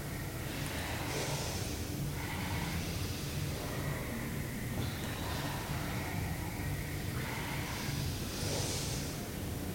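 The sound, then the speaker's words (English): Forceful, rhythmic breathing during a yoga exercise repeats in strong, airy bursts every second or two, steady over a low background hum, with no talking. “Keep moving, keep breathing. Powerful breath.”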